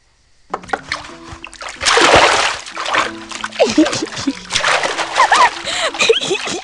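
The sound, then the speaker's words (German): Lively water splashing and sloshing in irregular bursts as a child washes itself, like washing in a basin, with brief vocal sounds mixed in. “Verschwende das Wasser nicht.”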